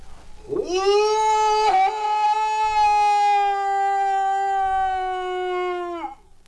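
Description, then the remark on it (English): A man lets out a long, loud moose-call holler from the highest peak of Mount Katahdin in Maine, calling the moose together for a count: a rising wail that holds one steady, strongly harmonic pitch for about five seconds before dropping off abruptly. “I climb up Mount Katahdin to the highest peak in the state, and I let out my moose holler.”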